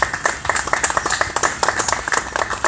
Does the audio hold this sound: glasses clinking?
no